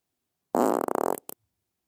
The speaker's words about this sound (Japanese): メイドにおちんちん食べられて感じちゃう悪い子にはおならのお仕置き。